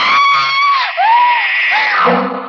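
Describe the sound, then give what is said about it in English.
A woman screams in terror, loud: a shrill, piercing cry that breaks off briefly, then rises again into a longer, wavering shriek that trails away, as a figure with an upraised knife stands over her bed. “I screamed.”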